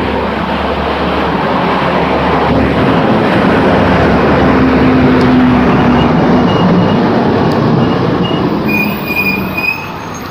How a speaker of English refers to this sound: That was a big truck, in case you missed it.